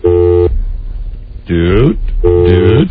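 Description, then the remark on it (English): A buzzy electronic telephone tone sounds in three short bursts, the first steady, the later ones sliding in pitch, loud on the line with no talking. “Phone? Come on.”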